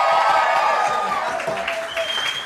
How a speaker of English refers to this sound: You guys have a cheer for the acts you've seen so far, guys. Yeah!